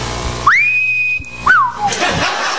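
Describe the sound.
A person whistles in an English style: a long note that slides upward and holds steady, then a shorter whistle that rises briefly and glides back down, loud and clear with no talking.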